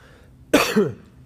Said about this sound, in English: Y'all excuse me for a minute. I'm going to put in a cough drop. I got a little cough going on here.